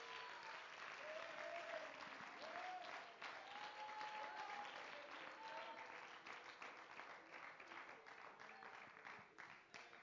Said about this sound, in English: Oh, one more time, can you give the Lord a hand clap of praise? Hallelujah, hallelujah, hallelujah.